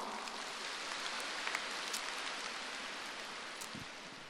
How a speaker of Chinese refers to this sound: 鼓掌。